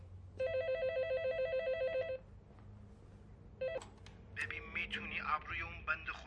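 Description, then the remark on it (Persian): A telephone rings with a rapid, warbling electronic trill for about two seconds, pauses, starts briefly again, then stops as people begin talking. “تلفن تلفن.”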